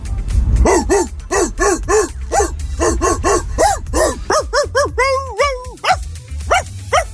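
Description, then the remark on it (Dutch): A person imitates a barking dog to win Foute Party tickets, with a rapid, rhythmic string of loud woofs, ending in a few longer, drawn-out howling barks. “Ik zei, nou ja, blaf jezelf dan naar de Foute Party.”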